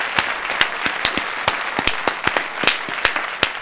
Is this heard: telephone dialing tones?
no